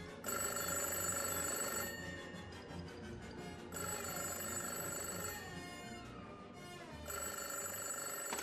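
A telephone rings loudly in three long bursts separated by short pauses, its bright electronic trill repeating with no voices present.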